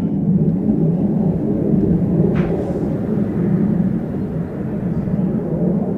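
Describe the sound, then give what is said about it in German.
A military jet flying near the speed of sound during NATO exercises over the Saar-Hunsrück region roars overhead with a loud, steady low rumble that fills the whole stretch without rising or fading much. No voices can be heard over it. “Wir fliegen ganz an der Grenze der Schallgeschwindigkeit. Wenn Sie da den Schall hören, ist er schon da.”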